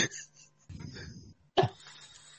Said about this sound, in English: I'm new to this, so sorry, I'm just going to cough one.